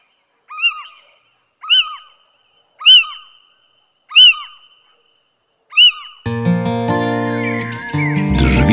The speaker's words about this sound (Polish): Tak się odzywa pójdźka.